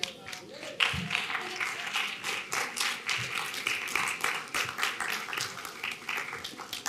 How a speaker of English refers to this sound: Why don't you stand to your feet and give him a hand clap if you can receive that today.